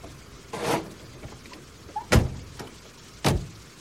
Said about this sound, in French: Ils vont frapper à la porte.